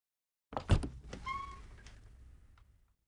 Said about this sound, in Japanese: 廊下の突き当たりの、青い扉。そして彼女は扉を開けます。